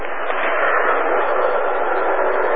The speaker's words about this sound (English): That's the highway and all the cars.